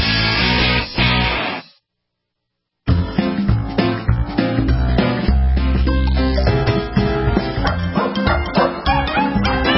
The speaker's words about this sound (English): Is that just gas passed by a dog? Is that what I just heard there, Warren? Wait a minute. What's the story? Gas passed by a dog. We all have dogs. I believe that was a burp.